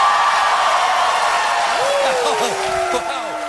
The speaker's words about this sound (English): You can obviously hear the audience cheering in delight. And most of them are liberals because, well, I mean, no conservatives could possibly stomach watching Colbert, let alone going and seeing him in person.